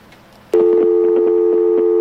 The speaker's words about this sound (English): We have a phone call, and we did get an answer on our trivia.